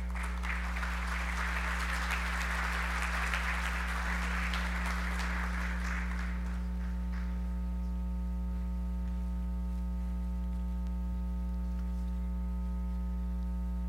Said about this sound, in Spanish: para quien también pido un caluroso aplauso, por favor.